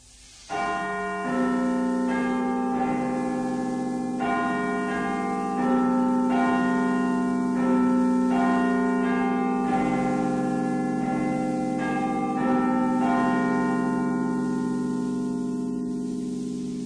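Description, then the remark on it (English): The Big Ben clock-tower bell chimes midnight in a slow sequence of deep, resonant strikes, each note ringing on and overlapping the next, loud and steady with no voices. “We go over down the road for the chimes of Big Ben midnight.”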